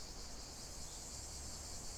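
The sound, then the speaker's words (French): Cicadas drone in a steady, unbroken high-pitched buzz that holds evenly throughout, fairly soft, with no voices or other sounds. “Le bruit des cigales. Ça me rappelle les siestes au pied d'un arbre.”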